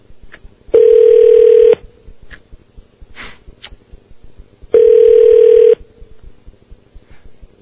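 An outgoing phone call's ringback tone, calling Hughes' office: two steady, buzzy one-second rings about four seconds apart, heard clear through the line, with faint rustles and a sniff in the pauses.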